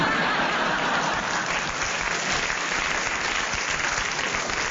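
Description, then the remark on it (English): Sustained, dense applause from an audience after Derek Nimmo's challenge, a steady crackling wash of many hands clapping at once, holding level and fairly loud throughout with no voices standing out. “I don't know why the audience clapped, because...”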